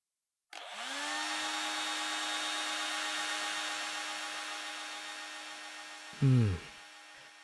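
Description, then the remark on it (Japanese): A hair dryer, used to dry the hair of a person seated in a chair, switches on with a rising whine and blows steadily in a broad, even hiss, then a brief low thump or rumble sounds near the end. No one speaks. “じゃあ今から乾かすから、ドライヤーの風、暑かったら行ってね。”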